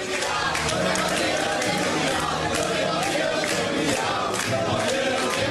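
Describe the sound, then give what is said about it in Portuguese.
A large crowd of Flamengo football fans sings a provocative chant mocking Palmeiras for having no Copinha and no world title, a loud, steady wall of massed voices with a rough, shouted quality that holds throughout. “Cantaram a famosa música, a fila toda.”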